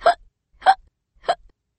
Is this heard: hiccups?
yes